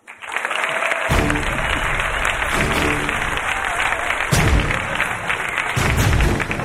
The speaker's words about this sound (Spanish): Y está por aquí alguien que siempre mira como sospechando y que se hace muchas preguntas. Un aplauso para Gloria Serra.